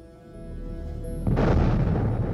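A low rumble builds, then a heavy explosive boom breaks out partway through and keeps rolling as a thick, sustained roar of explosions booming continuously in the sky. No voices.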